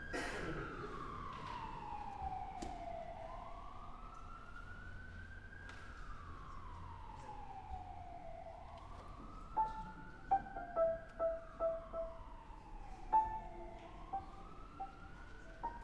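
An emergency vehicle siren in Peterborough wails in slow, sweeping rises and falls, fairly loud and steady, with a handful of short, sharp horn-like blips cutting in toward the end.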